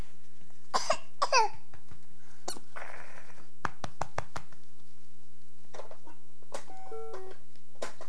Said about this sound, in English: What's the matter, sweetie? Come here. You have something going down the wrong pipe?